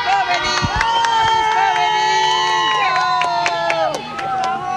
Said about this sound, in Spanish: Y la gente las despide también, alzando sus manos, agitándolas y también con algunos aplausos, lo escuchábamos. Leves. Porque todos quieren registrar este momento, con su teléfono celular. Incluso la pequeñita también aplaudiendo.